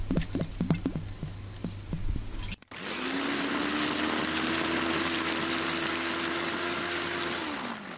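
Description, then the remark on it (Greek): A few light clicks and taps, then a blender motor whirs up into a loud, steady grinding hum that holds for about five seconds before winding down as it chops dill and parsley with two tablespoons of olive oil. “Τα βάζω και αυτά μέσα στο μπλέντερ και θα τα τρίψω μέσα με 2 κουταλιές ελαιόλαδο.”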